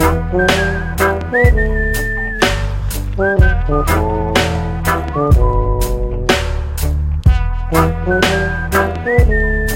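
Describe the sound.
A clear whistled melody rides on top of a lively band with steady drum hits and bass, the whistling holding long notes and sliding between phrases, loud.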